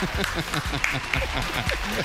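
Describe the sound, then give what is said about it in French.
A steady burst of audience applause, dense and fairly loud throughout the two seconds, with voices talking and calling out over the clapping. “On va applaudir quand même”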